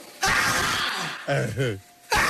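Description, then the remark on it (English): A montage of a grandmother sneezing: a rapid series of loud sneezes, harsh explosive bursts separated by a wavering, voiced intake, with another sneeze cutting in right at the end. “Here's the montage of the grandmother sneezing.”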